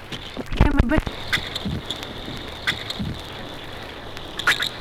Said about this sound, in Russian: Звуки, издаваемые судаком при захвате мелкой рыбы.